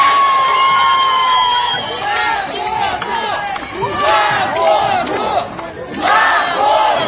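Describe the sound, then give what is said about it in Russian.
A large protest crowd shouts and chants in the street in Khabarovsk, Russia, where such protests have gone on for weeks, especially on Saturdays. Many voices overlap in loud, continuous waves with rising and falling cries, and a high whistle-like tone is sustained near the start. “Город, в котором уже не одну неделю, особенно по субботам, творится вот такое.”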